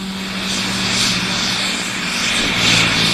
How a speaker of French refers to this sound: Ce bourdonnement si caractéristique est celui d'un Reaper. Lui ne boxe pas dans la même catégorie. Près de 5 tonnes en vol, 24 heures d'autonomie, 4 hommes d'équipage, une zone d'entraînement de 13 000 km².